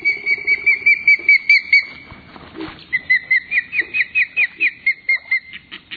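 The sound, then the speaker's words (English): Juvenile ospreys, large fish-eating hawks, call for food at a remote lake in northern Ontario in a rapid series of shrill, whistled chirps, a steady burst, a brief pause, then another long, even run of high-pitched cries. “Hear their juveniles calling for food?”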